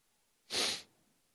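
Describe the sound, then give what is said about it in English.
A single short, forceful nasal blast of someone blowing their nose once, breathy and hissy, with quiet before and after. “Goes to running, and so I go to snotting, blowing my nose, falling to pieces.”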